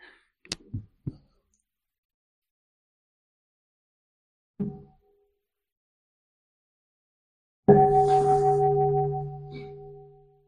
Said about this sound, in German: Aber das ist noch nicht das Ende. Vielleicht haben wir noch eine Glocke.